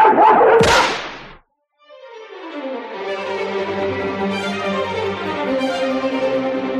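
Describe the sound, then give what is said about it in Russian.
A pack of hunting dogs that has raised a black-brown fox gives voice: a short, sharp burst of barking, a brief pause, then a loud, sustained chorus of baying and howling from several dogs together. “дикая радость обуяла их, когда они увидели, что собаки подняли черно-бурого лиса.”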